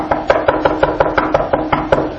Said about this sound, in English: Then all of a sudden there's a knock on the door.